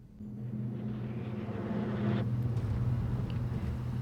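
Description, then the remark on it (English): A car with three people inside drives along with a steady, low engine drone and a constant rush of road noise, growing slightly louder about halfway through. No one speaks. “Lana, John and Tom are in the car.”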